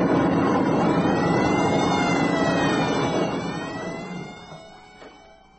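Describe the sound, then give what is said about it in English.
Several alarms blare at once in a dense, wailing tangle of tones, loud and continuous before gradually fading away over the last couple of seconds. No one speaks. “Listen to all those damned alarms!”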